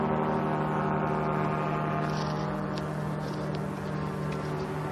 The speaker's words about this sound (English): Oh, there it is. It's an airplane.